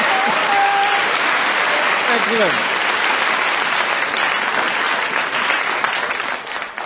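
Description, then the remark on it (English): An audience applauds in a dense, steady wash of clapping that fills the whole stretch, with a few brief whoops or whistles near the start, easing off slightly at the very end. The audience buzzes with anticipation as two performers leave before their song. “Did you hear that buzz of anticipation?”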